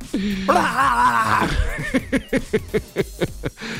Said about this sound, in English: I do love that, though. Letting out all the primal alpha screams to just get all the testosterone juices flowing. Absolute caveman speech.